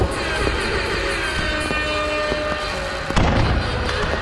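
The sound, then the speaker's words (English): Fireworks explode in a dense, continuous barrage, with a rumbling crackle punctuated by several sharp bangs and a louder burst near the end. No one speaks. “Oh, interior fireworks.”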